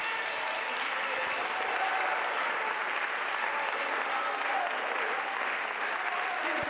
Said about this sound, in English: All over this house, clap your hands unto the Lord.